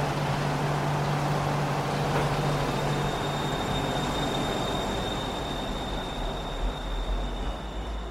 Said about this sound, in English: Ending the ride at my home stop, the doors open out into the din of the street once more. 9 beeps sound behind me, and the train pulls away.